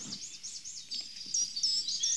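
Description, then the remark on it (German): A high, thin bird call repeats in quick looping chirps, fairly faint, with soft outdoor background noise beneath it and no talking. “Ich höre jetzt einen Vogel, hör mal.”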